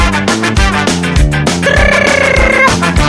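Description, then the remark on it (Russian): An alarm clock rings as a loud, bright musical jingle with steady pulsing chords, then a long held crowing-like tone on top for about a second. No one speaks. “Звоночек, будильник, 9 января, все, 9 января на работу.”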